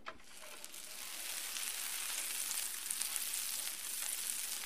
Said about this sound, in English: Once your butter is nice and sizzling, you can spoon a little bit of your batter right onto your griddle and let it cook.